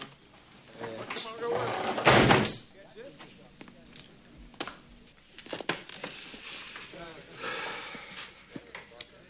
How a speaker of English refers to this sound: shut the door.